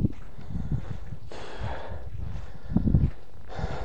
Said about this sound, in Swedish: För upp lite slem också som jag måste hosta upp faktiskt också.